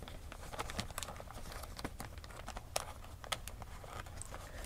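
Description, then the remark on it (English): A plastic bag crinkles and rustles as it's opened, a steady stream of crisp crackles with a few sharper pops, fairly quiet, with no talking. “Where's that plastic bag she gave me?”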